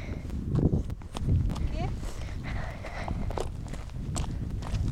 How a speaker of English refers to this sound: Okay. Watch yourself. Look, who's this here? A horse!